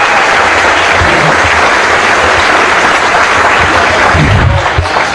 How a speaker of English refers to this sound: Okay, let's have a round of applause.